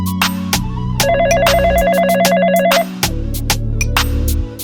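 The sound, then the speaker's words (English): A telephone rings with a rapid, warbling electronic trill lasting about two seconds, layered over a loud, steady beat with sharp percussive hits that continues after the ringing stops. “I'm calling back.”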